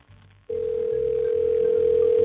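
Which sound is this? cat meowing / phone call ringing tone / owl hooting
phone call ringing tone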